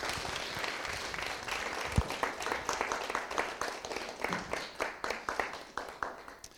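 An audience applauds steadily, a dense wash of many hands clapping that holds for several seconds, with a few individual claps standing out toward the end as it thins.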